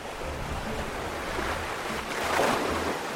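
Steady Adriatic Sea surf washes in on the beaches of a small resort town in southern Montenegro, 75 miles south of Dubrovnik, with a broad, hissing roar, swelling louder near the end as a wave breaks and rushes up; no voices, just continuous water noise.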